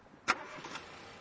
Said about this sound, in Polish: No i co słychać? Nic nie słychać. No, słychać, że szemrze i o to chodziło właśnie, bo rzeczywiście silnik bardzo cichutki i przyjemny.